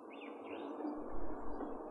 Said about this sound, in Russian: На заросших лесных сечах можно услышать протяжный свист дроздов-белобровиков.